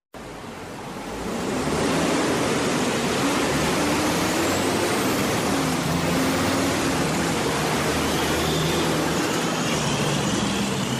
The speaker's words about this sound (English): On a sunny afternoon, traffic is bustling through one of the busiest intersections in Morgantown on University Avenue. There are cars, buses, and even industrial trucks rumbling through this congested intersection every day.